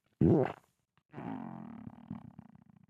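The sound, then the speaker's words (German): A wolf-like snarl bursts out loud, then after a short pause a longer, rough, rumbling growl continues for a couple of seconds with no talking. “sprang er aus dem Bett und auf das arme Rotkäppchen und verschlang es”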